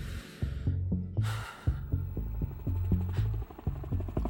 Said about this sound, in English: Helicopter. We can wait for help.